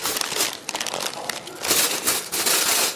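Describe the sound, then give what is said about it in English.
Continuous crinkling and crackling of plastic or paper packaging being handled and torn open, with rustling bursts throughout as a doctor unpacks surgical tools (scissors, syringes, blades) one by one for a male circumcision procedure in a landlocked East African country. “The sound of scissors, syringes, blades, tools which are used to cut the foreskin of a man's penis. One by one, the doctor unpacks them as he awaits to conduct the procedure”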